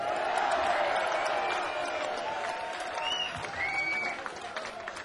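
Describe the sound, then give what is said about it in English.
A crowd at a live concert in Manchester applauds the support band steadily, a dense wash of clapping with some cheers and whistles rising above it, sustained throughout without pause. “Can you do me a big favor and give a big applause for the support band here tonight?”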